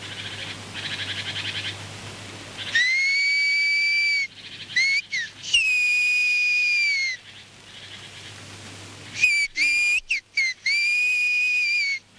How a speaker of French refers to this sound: Le langage sifflé peut désormais s'apprendre au collège